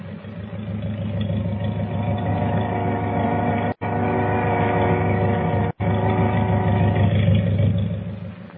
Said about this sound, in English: Wait a minute. What's that? Sounds like motors. It is. Hey, the boat's moving. She's pulling out.